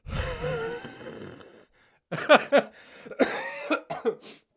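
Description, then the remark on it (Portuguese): A drawn-out, voiced throaty groan, then a short pause and a string of harsh, loud coughs in two rough clusters, about five or six bursts in all, with no talking. “Sempre que eu tossir, pá, vou tentar, pá, ir a Bragança, num instante tossir para não ficar aqui nada, mas realmente na toda.”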